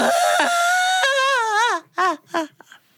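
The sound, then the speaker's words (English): A storyteller's voice imitates Turtle whining and crying as he makes his way through the woods: a long, high, wavering wail that bends up and down in pitch, followed by three short, breathy sobbing bursts that trail off. “And Turtle was making his way through the woods, but he was sniffling and snuffling. He was whining. He was pouting. He was fussing. He was crying.”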